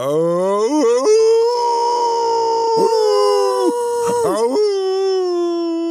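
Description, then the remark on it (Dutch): A person mimics a wolf howl with a long, wavering vocal wail that rises and dips in pitch, loud for several seconds with brief breaks and yelps. “En wat denk je van zijn gehuil? Gejank. Ja. Gaan we dat nu nadoen?”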